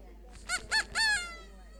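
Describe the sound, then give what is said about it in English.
A squeaky duck toy squeaks three times in quick succession, each honking squeak nasal and bright, fairly loud with nothing else around it. “And they hear this random duck squeaking.”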